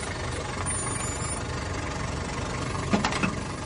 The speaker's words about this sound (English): Exterior. Street. Morning. Tripper stands opposite the door. The cab draws up.